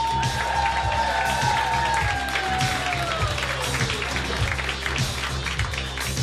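A comedy club audience breaks into steady applause and cheering, with dense clapping throughout and a few whoops, including a gliding high-pitched whistle that falls over the first few seconds.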